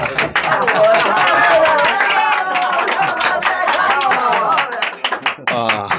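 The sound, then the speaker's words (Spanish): Spectators at a sporting contest on a stage clap loudly and rapidly for Calimán's victory, a dense, steady patter of many hands for several seconds, with excited voices calling out over it before the applause thins toward the end. “Los espectadores aplauden con entusiasmo.”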